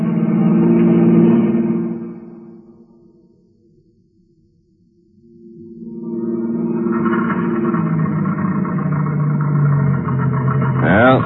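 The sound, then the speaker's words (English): A car engine drones, then falters and dies away into near silence as the car runs out of gas, before a louder, steady rumbling swell rises again and continues to the end. “The end of the gas.”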